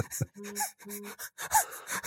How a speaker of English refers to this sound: I heard a mobile phone vibrate. Then it's just such a shit podcast. It's just the sound of mobile. I haven't even bothered turning it off.